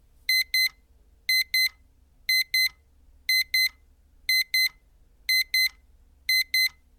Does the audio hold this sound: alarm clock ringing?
yes